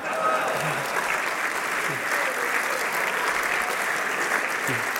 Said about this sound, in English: a big round of applause for all the award winners and nominees thus far.